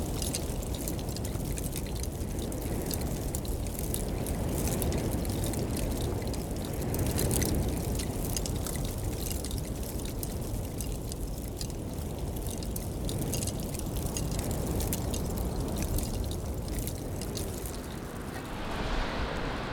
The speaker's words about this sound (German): Stell dir mal dünne Eisschichten vor, die im Wind sanft gegeneinander schlagen. Dieses Geräusch habe ich gehört und aufgenommen.